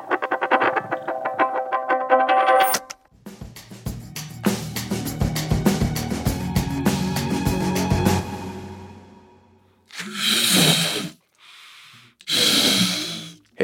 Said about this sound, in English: I see you're blowing up some balloons. What is going on here? Some kind of inflation party?